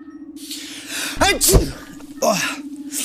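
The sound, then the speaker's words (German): A forceful sneeze bursts out midway, sharp, with a gasping build-up before it, over a steady low hum. “Da muss … wieder kräftig niesen.”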